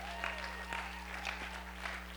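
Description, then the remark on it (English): Steady audience applause, a dense patter of many hands clapping at an even, moderate loudness throughout, with no voices breaking through. “Come on, if you're going to applaud something, you really got to do it, you know?”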